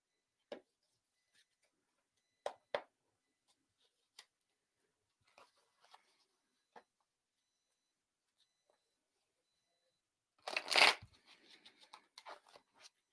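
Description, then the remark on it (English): Scattered soft snaps and clicks of tarot cards being handled for a reading, then a sudden dense riffle of the deck being shuffled followed by quick light flicks. Quiet, with no talking. “All right, so I'm shuffling for Lillian.”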